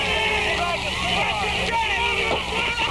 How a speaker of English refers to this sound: While everybody boos in the crowd, you can hear all around us.